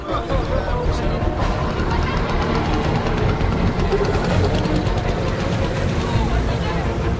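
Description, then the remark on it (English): A small scooter engine drones steadily as Desch threads his way through a traffic jam, with a constant wash of crowd chatter and city noise around it, loud and unbroken throughout. “Desch threads his way through a traffic jam.”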